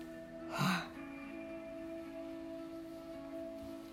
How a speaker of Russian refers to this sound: Помогите себе дыханием. Сделайте вдох. Задержите дыхание. И с выдохом.